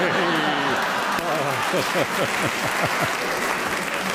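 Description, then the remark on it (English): A game show audience applauds a contestant's joke in a dense, steady clatter of clapping that lasts the whole stretch, with a voice or two and some laughter rising over it partway through. “You get a round of applause from the audience, right?”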